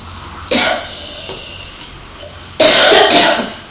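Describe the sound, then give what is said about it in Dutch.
Two loud coughing bursts, one near the start and a stronger one later, separated by a quieter stretch with faint breathy noise and no speech. “Maar we moeten ook de hele tijd nog hoesten, hè?”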